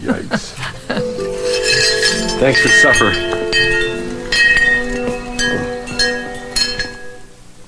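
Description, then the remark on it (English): Wind chimes get knocked and clatter into a bright, jangling cluster of metallic rings that shimmer and slowly fade, while a man speaks briefly over the ringing; the man backs into the wind chimes as he steps outside. “He backs into wind chimes.”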